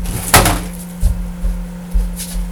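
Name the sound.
knocking on a door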